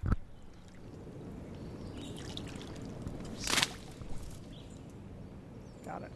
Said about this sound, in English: Oh, there you go. That, my friends, is the sound. It's one unhappy dragonfly stuck in a net, buzzing its wings against the net. There. This is something called a slaty skimmer, so named because it's sort of this dark grayish blue color.